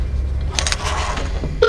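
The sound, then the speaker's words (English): Telephone dialing beeps as a call is placed on speakerphone: a short, clear electronic dual tone at the end, after a few soft clicks and rustles over a steady low hum. No one speaks. “Hear that beeping.”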